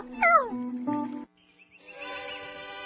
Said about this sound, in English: Meow. Whiskers, I'd better call Dr. Richmond for you, too.